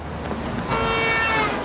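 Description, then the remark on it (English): A car horn blares after a brief stretch of street noise at a crossroads in a residential area under a watery sun, holding one loud, steady honk to the end as the car nearly hits a woman running across the road, without any voices. “A car nearly hits her as she runs across the road.”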